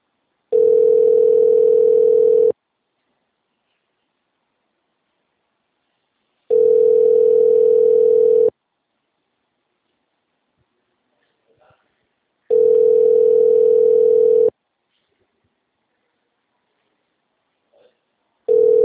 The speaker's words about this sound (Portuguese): Mensagem gratuita de telefone ocupado. Aguarde alguns minutos para voltar a ligar.